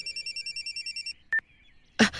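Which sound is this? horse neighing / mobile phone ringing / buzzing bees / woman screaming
mobile phone ringing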